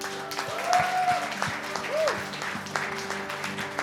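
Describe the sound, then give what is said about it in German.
A crowd applauds steadily for a few seconds, a dense patter of many hands clapping at once, with a faint tonal whistle-like sound rising briefly over it. “Vielleicht schon mal einen Applaus vorab.”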